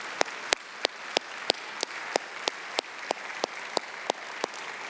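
An audience applauds and cheers for fathers standing up across the room, with sharp, steady claps standing out in an even rhythm of about three per second over a continuous wash of crowd clapping and noise. No voice speaks over it.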